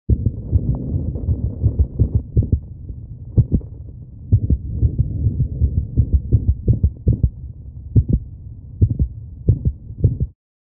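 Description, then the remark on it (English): An irregular heartbeat of a coughing dog with bronchitis, its low thumping beats arriving at uneven intervals, sometimes bunched close together and sometimes spaced apart, over a steady low rumbling background with no talking. “This arrhythmia is heard in a coughing dog with bronchitis.”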